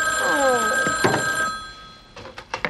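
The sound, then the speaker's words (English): An electronic home telephone ringing with steady tonal lines and a warbling pattern, loud, fading after about a second and a half, followed by a few soft thumps and clicks. “you have a phone call from a boy.”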